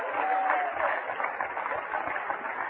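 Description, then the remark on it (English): An audience gives the Lord a hand clap at an evening service, clapping together in a dense, sustained burst of applause that holds steady at a fairly loud level for the whole stretch, with no clear rhythm to the hand claps. “Oh, let's give the Lord a good hand clap here tonight.”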